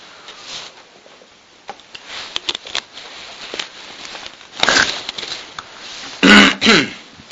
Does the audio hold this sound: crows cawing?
no